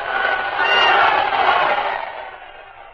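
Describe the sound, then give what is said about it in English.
A large crowd roars and cheers continuously as an elderly visitor, escorted to a carriage by Governor William Carroll and General Andrew Jackson, comes into full view, swelling to a loud peak in the first second and a half before gradually tapering off, with no single voice standing out. “Now he is in full view of the crowd.”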